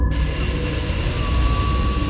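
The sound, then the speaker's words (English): A deep, hollow rumbling of an earthquake roars on steadily without a break, heavy in the low end, with a faint thin whine riding above it. No voices are heard. “'Tis an earthquake. But listen to the hollowness of the sound.”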